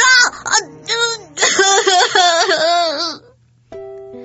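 A child, resisting a bully at school, cries and wails loudly in pitched sobbing bursts that rise and waver for about three seconds, followed by a brief quieter tonal sound.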